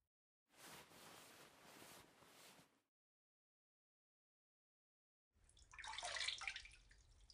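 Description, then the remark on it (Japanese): Bath water sloshes and splashes in a bubble bath in a tub in two separate bursts, each a couple of seconds long, with a quiet pause between them. Fairly loud, with no voices. “泡風呂で正解だ。湯船に浸かりながら洗えるし、いい案でしょ？”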